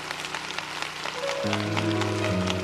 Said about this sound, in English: Everybody said, come on, give God a round of applause right where you are. Oh, we can do better than that. Come on.